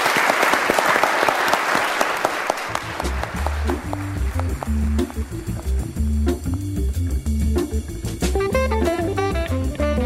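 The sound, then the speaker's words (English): A loud burst of audience applause for a mock jury that has just ruled in a case against a pet crematory and a veterinary clinic, dense clapping for about three seconds, then it fades as an upbeat music track with a steady bass line takes over. “Round of applause for our jury for really...”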